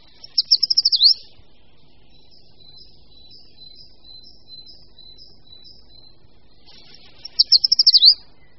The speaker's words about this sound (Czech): Tímto hlasem se ozývá vzhledově i chováním velmi nenápadný ptáček, který šplhá po kůře stromů trhavými poskoky. Jde o šoupálka dlouhoprstého.